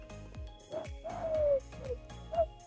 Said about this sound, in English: Unless it's the pigeons and the seagulls. That was a pigeon. It's quite nice.